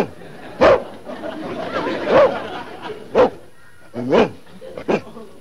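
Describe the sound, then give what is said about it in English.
A police dog named Wolf barks five times in short, sharp, irregularly spaced bursts, each loud and harsh, over a steady low background murmur that may include faint voices. “Sure, and if he tries anything with me, I'll sick my police dog on you.”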